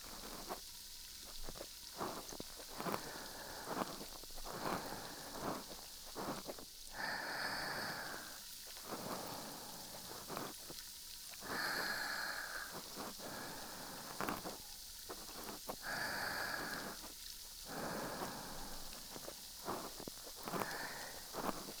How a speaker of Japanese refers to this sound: リラックス、リラックス、シュワシュワな音と雨の音だけ感じてね。